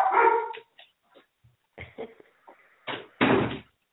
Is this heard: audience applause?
no